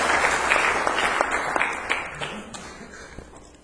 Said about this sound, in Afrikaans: Geef hom 'n hande klap.